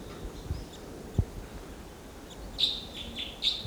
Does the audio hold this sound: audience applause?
no